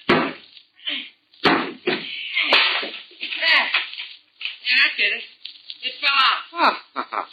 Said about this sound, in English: Now, just see if you can knock that piece out, will you? What piece? The piece of wood around the doorknob that I just saw.